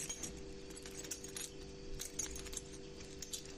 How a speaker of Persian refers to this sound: خب بذار من کارت پولمو بردارم با کلید و این انگشتر. خب ببینم